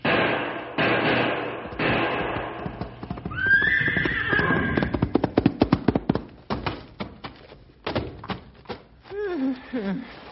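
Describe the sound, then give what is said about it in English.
A horse whinnies shrilly amid a noisy scuffle as it tries to help its wounded rider against a charging bull, followed by a rapid clatter of hooves and then another lower, descending whinny near the end; no one speaks. “Stumpy's horse, Maud, is frantically trying to help her master”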